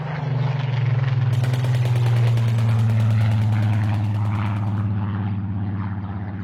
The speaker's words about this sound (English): Silly, really, playing with swords when Spitfires and Messerschmitts were dogfighting overhead.